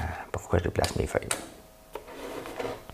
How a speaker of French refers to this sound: Pourquoi je déplace mes feuilles?